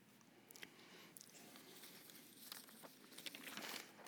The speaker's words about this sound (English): There's a lot of paper up here this morning. I got to keep it moving so I have the right piece in front of me.